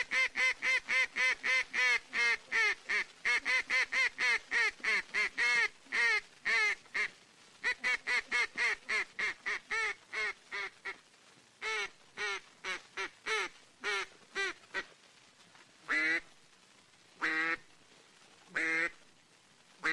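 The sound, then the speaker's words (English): A duck call, blown as duck calling is done in the flooded timber at Stuttgart, Arkansas, gives a long, fast run of loud, rhythmic quacks that gradually slows into spaced, drawn-out calls, clear with no talking. “Here is duck calling as done in the flooded timber at Stuttgart, Arkansas.”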